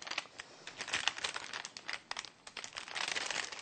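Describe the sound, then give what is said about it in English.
Parchment paper crinkles and crackles steadily as it is carefully and slowly peeled off food baked in the oven, a dry rustling with bursts of sharper crackle and no talking. “So we'll just carefully and slowly take this parchment paper off.”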